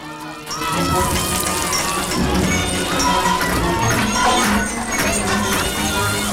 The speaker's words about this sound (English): Okay, look at these pipes must lead to a building or something. A foundation. So maybe if we bang on them hard enough, if we make enough noise. They begin frantically banging on the network of pipes above them.